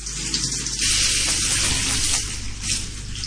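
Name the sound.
shower water running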